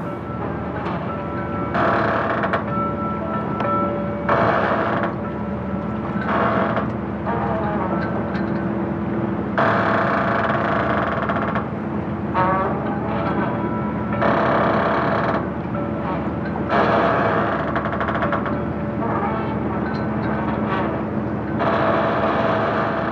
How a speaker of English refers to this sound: You are listening to the creaking of a dock ramp on Bear Island, one of the islands in the township of Cranberry Isles, Maine.